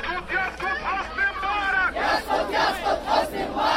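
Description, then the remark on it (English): Hundreds of protesters gathered outside the Egyptian embassy chant loudly in rhythmic unison in Arabic, many voices shouting 'down with Mubarak' in steady pulses, with a constant roar of voices underneath. “That means down with Mubarak in Egyptian, and that sentiment pervaded the crowd”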